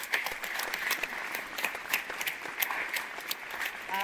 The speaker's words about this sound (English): I mean, just, we have to give her another round of applause.